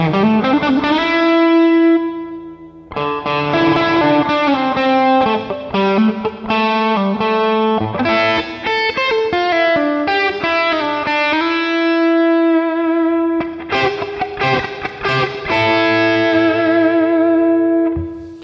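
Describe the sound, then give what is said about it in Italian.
An electric guitar plays a melodic phrase with a smooth, slightly driven tone, notes ringing out with a short, roomy reverb tail; steady level, no voices. “E qui siamo un po' più morbidi, con un riverbero tipo room.”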